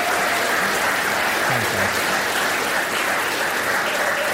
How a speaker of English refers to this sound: Round of applause. Thanks, guys.